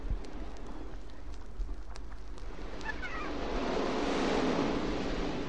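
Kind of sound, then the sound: nature, ocean waves washing ashore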